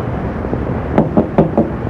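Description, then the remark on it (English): Four quick, solid knocks rap on a door in an even rhythm, clear, over a low background hum with no one talking. “there is someone there. Then open the door.”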